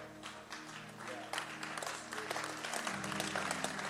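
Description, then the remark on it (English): An audience claps steadily for the full four seconds, a dense wash of many hands over a low sustained hum, with a faint voice or two murmuring beneath. “Oh, clap.”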